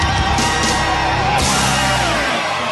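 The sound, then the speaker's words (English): A loud, dense roar of a crowd cheering wildly as a show host is introduced, with yells and whoops layered over a steady wash of noise that holds strong for about three seconds. “And the crowd goes wild with delirium at the mere mention of my name.”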